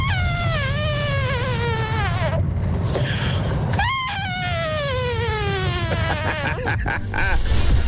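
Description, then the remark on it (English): A voice imitates a vacuum cleaner with two long, nasal whines that slowly glide downward in pitch, set over a steady low rumble, loud. “So I asked you for vacuum cleaners and you did not disappoint.”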